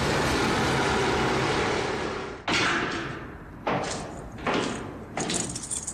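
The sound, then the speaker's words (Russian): A car rumbles to a stop, then a car door opens and slams as a person gets out, followed by several more heavy thuds and slams, with no talking. “Автомобиль останавливается, дверь открывается, выходит человек.”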